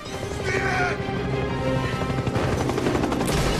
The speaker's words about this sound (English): Jack fires again. Saunders stops and fires back, then sprints further along the concrete riverbank.